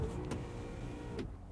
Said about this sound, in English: The car starts moving again.